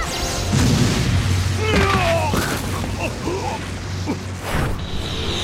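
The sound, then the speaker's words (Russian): A loud magical explosion effect: booming blasts and sharp bursts over a low rumbling drone, with shimmering, sweeping tones weaving between several impacts. “Взрыв!”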